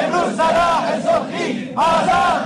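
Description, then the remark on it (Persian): A crowd of protesting teachers in Shiraz shouts calls for justice together in loud, rhythmic bursts, their voices rising and falling in unison like a repeated chant, with brief gaps between phrases. “روز یکشنبه در شیراز هم معلمان فریاد دادخواهی سر دادند.”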